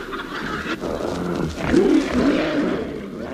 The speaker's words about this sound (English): Is that the tiger, Min? Let him in. Let him in. Come in, pussy. It isn't a tiger, Henry. It's a savage portion of the Christmas pudding.